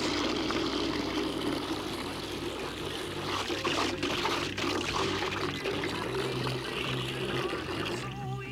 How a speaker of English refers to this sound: Hold on, I gotta water the plants.